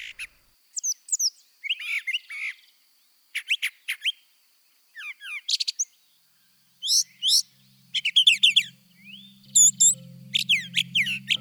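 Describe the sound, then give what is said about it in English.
A brown thrasher sings a varied string of rich, chirpy phrases in quick bursts separated by short pauses, clear, with a faint low hum joining in toward the end. “Listen to this guy, the brown thrasher.”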